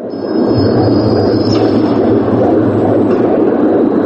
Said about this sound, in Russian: Этот ритмичный гул похож на шум заводских цехов, но на самом деле это запись биения нескольких десятков человеческих сердец. Мы находимся в парижском выставочном центре Гран-Пале.